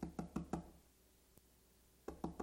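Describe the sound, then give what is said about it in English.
A female cardinal pecking on the glass of a house window: a quick burst of four sharp taps, a pause with one faint tap, then three more rapid taps, fairly loud with no voices. “So for the entire week, she's been pecking at a number of our windows, one in the bathroom, one in the kitchen.”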